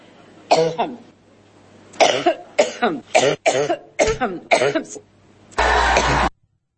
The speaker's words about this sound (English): Well, Hillary, she can no longer answer any questions, folks. I'm sorry. She's had a wicked coughing spell.